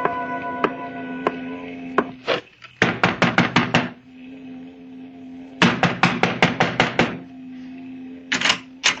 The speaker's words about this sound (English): You knock too loud, Paul. You disturb our boss.